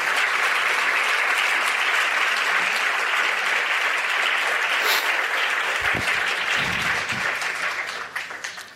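Sustained audience applause at the end of a conference talk, a dense crackle of many hands clapping steadily at a loud level for several seconds before beginning to thin out and fade toward the end.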